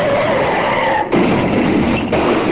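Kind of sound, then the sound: sound effect, car crash sound effect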